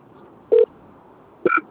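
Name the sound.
telephone dialing tones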